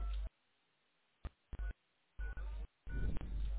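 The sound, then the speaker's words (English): Telephone keypad touch tones as a 10-digit callback number is entered on a voicemail system: short electronic beeps pressed in an uneven sequence, a few quick and separate, others longer and run together near the end. No one speaks. “To leave another callback number, enter the 10-digit number, then press pound.”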